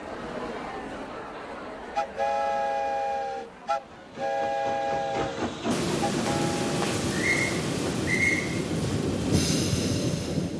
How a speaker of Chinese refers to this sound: 每座城市的铁路沿线都挤满了人，他们默默地站在那里，眼里面含着泪水，看着火车缓缓驶过。田里做工的人看到火车经过，纷纷跪下祷告，